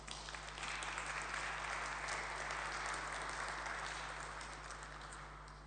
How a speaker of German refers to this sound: Ich bitte mal einen Applaus für ihn.